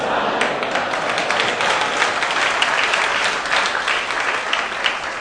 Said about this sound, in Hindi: ताली नहीं बजाते, ताली बजाओ, ताली बजाओ।